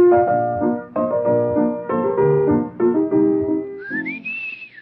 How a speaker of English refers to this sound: I didn't sing it. I whistled it. That's Tales of Vienna Woods.